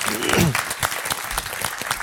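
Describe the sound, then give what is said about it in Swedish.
An audience applauds with dense, steady clapping for a couple of seconds, moderately loud, with a brief murmur of voices near the start. “Ja, vi kanske klappar.”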